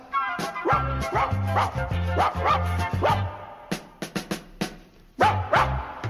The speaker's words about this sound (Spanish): Yo tengo un lindo perrito de pelo color café. No entiendo por qué la gente me dice que no lo ve. Lo llevo a pasear al parque, ceñido por su collar. La gente pasa y Angueto con furia empieza a ladrar.